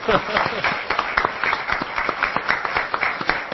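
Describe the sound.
An audience breaks into steady applause for the painter of an oil portrait being shown to the audience, a dense, rapid patter of many hands clapping at an even loudness throughout, with faint crowd voices mixed underneath.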